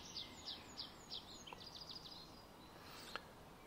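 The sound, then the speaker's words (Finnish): Birds chirp in a forest: a run of quick, high tweets repeats in a steady rhythm, then thins into a few scattered, fainter calls over a soft outdoor hush. No one speaks. “Kuka ei ole opettanut näille linnuille ja puille ja kaikille, että miten niiden pitäisi toimia.”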